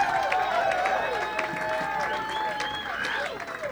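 audience applause

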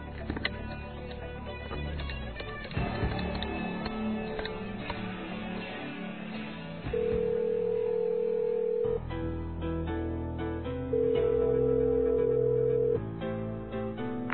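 telephone being dialed

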